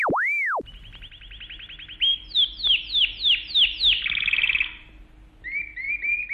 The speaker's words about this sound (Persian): اینجا چقدر پرنده است. آره عزیزم، راستش من تا حالا پامو تو مغازه پرنده فروشی نذاشته بودم. آخه دلم میگیره وقتی اونا رو تو قفس میبینم، ولی الان که با همیم گفتم بیایم یه نگاهی به این قناریای خوشگل و خوش صدا بندازیم. چه صدایی، چه صدایی.